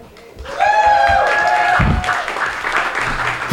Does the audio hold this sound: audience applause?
yes